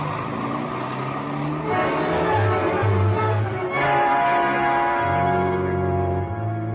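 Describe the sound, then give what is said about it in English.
A taxi's engine roars steadily as the cab speeds through city traffic to the Wrigley Building, running red lights, the motor revving up and shifting in pitch over a constant rumble of traffic, loud throughout. “The red on the traffic lights didn't mean a thing, but it still took us 3 minutes to get to the Wrigley building.”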